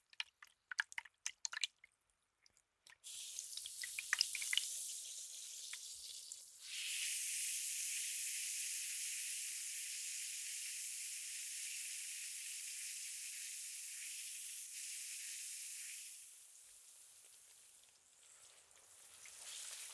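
Carbonated water rinses through hair with a steady fizzing hiss, broken by a few crackly drips at the start, then settling into a continuous bright spray that tapers off near the end.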